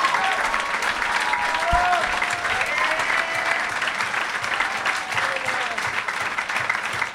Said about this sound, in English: One more group round of applause for Jeff Tate, Emma Arnold, and Jacob Siroff.